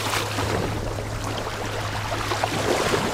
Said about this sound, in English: Waves are gently lapping up onto the shores of Lake Victoria. Fishing boats cruise to and fro. Most of them are traditional sailing boats and canoes with paddles. A few have modern outboard motors.